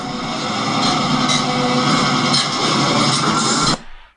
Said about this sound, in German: Das war es von der Internationalen Eisenbahntechnischen Ausstellung Sedin. Dampf. Elektro. Und Diesellokomotiven.